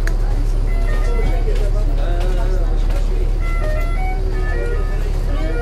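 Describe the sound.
Steady low engine rumble from inside a moving city bus, continuous and fairly loud, with faint murmured voices and scattered tonal chimes over the drone.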